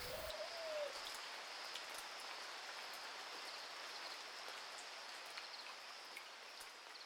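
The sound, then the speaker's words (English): Steady morning rain falls with a dense, even hiss throughout, moderately loud, while a single short bird call briefly rises near the start. “This morning, she sits lightly on her eggs, unmoved by a steady fall of rain.”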